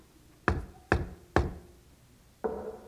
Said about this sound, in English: This is the house. I shall now give the secret knock that only he and I know.